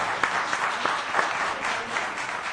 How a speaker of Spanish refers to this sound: Un aplauso a los miembros de esta rondalla ….